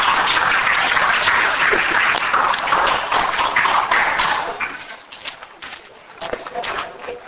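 An audience claps to welcome the Chinese-language department director of the Chen Anna Family Association to give a talk, a steady wash of many hands for about five seconds, then the applause thins out into a few scattered, fading claps.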